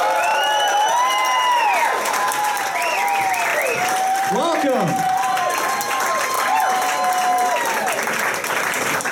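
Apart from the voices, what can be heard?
audience applause and cheering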